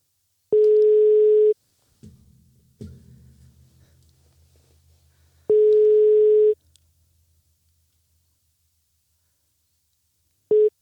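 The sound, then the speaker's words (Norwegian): A steady telephone busy signal as a call is placed to someone already busy on another call: loud, clean one-second tones repeating at regular intervals, with a clunky handset-like rattle and low rumble between the first two beeps. “Personen du ringer opptatt I en telefonsamtale.”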